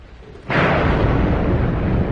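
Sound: loud thunder clap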